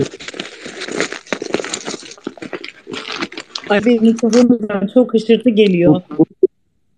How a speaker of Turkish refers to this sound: mikrofonun açık sanırım. Kağıt sesleri geliyor.